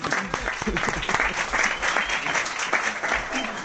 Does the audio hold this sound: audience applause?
yes